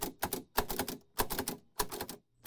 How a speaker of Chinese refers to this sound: 他在课堂有一台盲人打字机，可以工作也可以写诗。